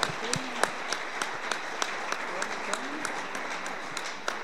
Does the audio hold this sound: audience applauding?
yes